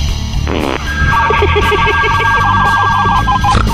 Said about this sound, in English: Is that the fart phone? Yeah. Was that the fart phone? That was the fart phone. I want to hear that again. It's the fart phone.